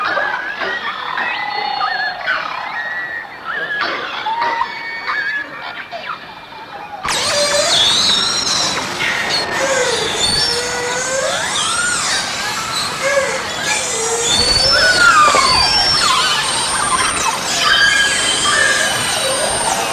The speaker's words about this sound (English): listening to the combination of a bowhead whale, the beluga whale, and the bearded seal all together when they're all making that sound. It's just wonderful.